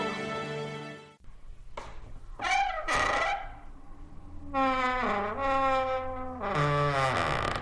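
Someone climbing up into an attic to dig out an old recording: a string of loud, drawn-out creaks and squeals that bend up and down in pitch, arriving in several bursts with short pauses between, and no talking.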